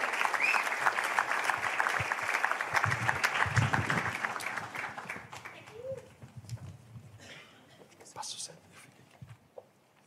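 A crowd claps loudly in a dense, steady burst of applause, which thins out and fades after about five seconds, leaving scattered claps and faint murmurs.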